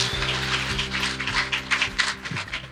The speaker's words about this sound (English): So let's give him a round of applause as he courageously shares his testimony for us.